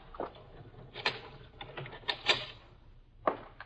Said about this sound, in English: Mr. Marsh, what are you going to do? First, we'll lock the door.